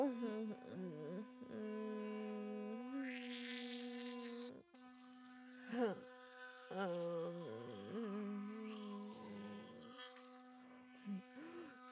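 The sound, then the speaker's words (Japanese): An electric toothbrush hums with a steady, mid-pitched vibrating buzz for the whole stretch, its tone briefly dipping and wavering several times as if pressed against something, with one short break near the middle. “この音ってさ、バイブに似てない？”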